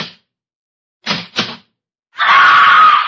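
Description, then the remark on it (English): A stenographer in an insurance office punches the time clock as she comes to work: two quick mechanical clunks close together, then a loud, sustained ringing buzz that cuts off abruptly. No one speaks. “She's punching the time clock.”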